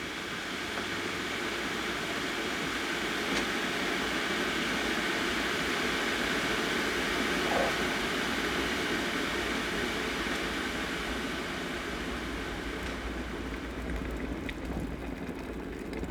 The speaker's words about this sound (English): Put some water in the kettle. Now turn the kettle on and stand back. Be very careful because steam is hot.